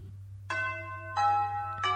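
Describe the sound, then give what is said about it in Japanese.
A school chime rings out in three clear, sustained bell tones, each new strike overlapping the fading ring of the last, over a steady low hum with no talking. “相変わらずこの学校のチャイム使うの変わんないんだよね。”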